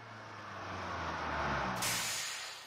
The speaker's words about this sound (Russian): Это последний автобус из Gravity Falls. Садитесь.